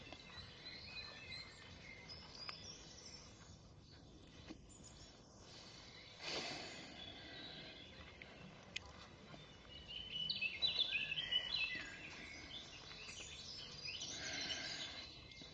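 Birds chirp and twitter in the background outdoors by a lake, with the sun shining after a few hours of rain: light scattered calls over a steady ambient hiss, growing a little busier toward the end, with no one speaking.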